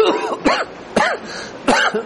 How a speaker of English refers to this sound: It burns, it hurts, and you cough and you choke over it. Yeah. It's not a pleasant thing at all.